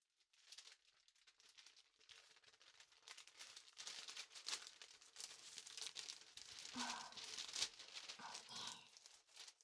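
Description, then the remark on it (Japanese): Continuous crinkling and rustling of stiff paper as a paper apron is unfolded and put on before eating to keep a shirt clean, with brief tearing-like scrapes, lasting nearly ten seconds with no one speaking. “あ、食べる前にシャツを汚さないよう紙エプロンをつけますね。”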